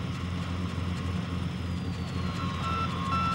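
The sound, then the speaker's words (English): An SOS distress signal picked up on an AM radio receiver: a short run of high-pitched electronic beeps emerges near the end through a constant wash of radio static and a low droning hum, with no voices. “It's an ancient Earth distress call known as an SOS.”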